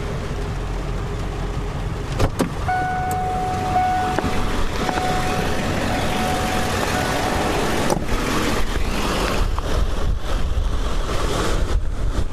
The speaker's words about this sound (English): This is where the CNN guy, you know, does the, because I mean, and the rain is more like foam. It's just kind of an all-encompassing sort of foam. I don't even think you can hear it because the wind is so intense, but I mean, these waves are crashing